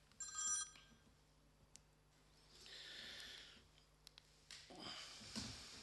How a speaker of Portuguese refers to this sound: Peço desculpa que não desliguei o telemóvel.